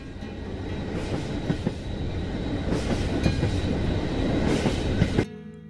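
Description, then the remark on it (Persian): A train starts to move from a busy train station early in the morning, rolling along the rails with a steady rumble and occasional clacks and rattles from the cars. The noise stays loud throughout, then cuts off suddenly near the end. No voices. “قطار مثل دلهای مشتاق منتظر است تا راه بیفتد.”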